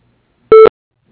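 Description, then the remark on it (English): A single short, loud electronic voicemail beep at the end of Transat Construction's answering message, a steady mid-pitched tone lasting about a fifth of a second, with a faint hint of a voice starting just after. “Please leave your name and number after the beep, and we'll call you back.”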